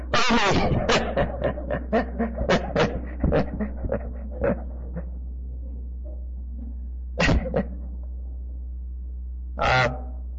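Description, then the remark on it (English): A dog whimpers and yelps in a quick run of short, sharp cries that fade out over several seconds, followed by two more isolated cries after a pause. Fairly loud, no talking. “The poor dog. I love dogs.”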